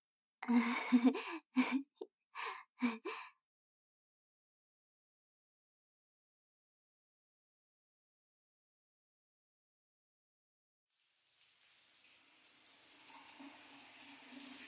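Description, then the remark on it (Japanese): A few short breathy gasps at the start, then a long silence before a steady hiss of running shower water rises and continues, moderately loud, until the end. “私もシャワーご一緒しようかと思って来ちゃいました。”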